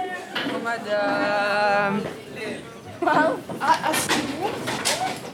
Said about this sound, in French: On ouvre la porte de la classe.